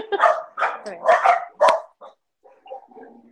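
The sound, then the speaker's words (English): Several cranky dogs bark in quick bursts, about five sharp barks over two seconds, followed by softer whining or faint voices trailing off. “They're all cranky.”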